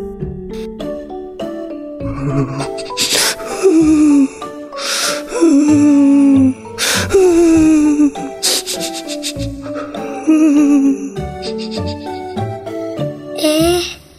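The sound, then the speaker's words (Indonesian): Crying, heard as a series of loud, wavering wails that slide downward in pitch, repeating every couple of seconds over busy background music with sharp percussive hits. “Tak lama kemudian, Mia mendengar suara tangisan.”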